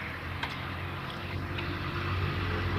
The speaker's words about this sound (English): I'm hearing heavy equipment.